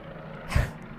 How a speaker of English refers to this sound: Oh, well, it looks like we have a plane landing directly on us. Sure sounds like it.